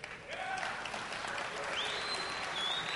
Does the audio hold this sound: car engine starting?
no